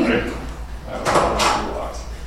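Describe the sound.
A door swings shut midway through, a short burst of clattering latch noise over a steady low hum, with faint murmuring voices in the background.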